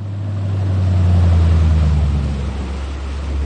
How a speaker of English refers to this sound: Just down the shoreline from Jay Schechter's place, a few motorboats idle up to Alex Vangelo's dock.